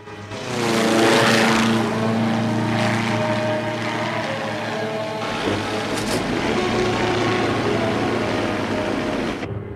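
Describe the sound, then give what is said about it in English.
A gyrocopter's engine and rotor drone steadily overhead in flight, a loud buzzing hum with strong harmonic tones, briefly shifting pitch midway as it passes. “The captain flies after him in the gyrocopter.”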